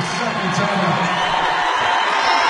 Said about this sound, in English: And let's see if this is a full or a 30. The Moorhead crowd going wild is a full timeout.